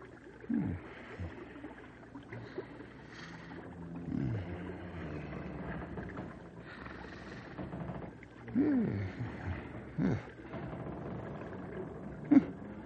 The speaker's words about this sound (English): must be snoring hard.